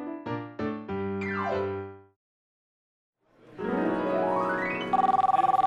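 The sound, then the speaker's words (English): Electronic tones of a new phone play: a quick run of stepped beeps sliding downward, a brief silence, then a rising sweep that turns into a loud, rapid pulsing ring. “Yeah, I'm sorry I missed your call. I just got a new phone.”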